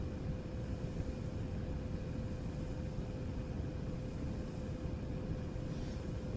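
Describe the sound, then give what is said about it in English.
A steady, loud low rumble of strong wind buffeting a parked car hard enough to shake it a little, heard from inside as a continuous roaring whoosh with a faint hum, no voices. “The wind is blowing so hard that this car is shaking a little bit.”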